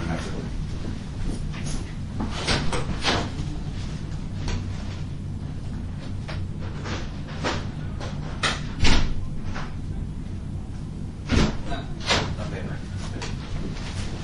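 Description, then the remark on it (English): Paper being loaded into a printer: a run of sharp clicks, taps and rustles at irregular intervals over a steady low mechanical hum, with a couple of louder knocks. “Let's see if I can put this paper in the printer here.”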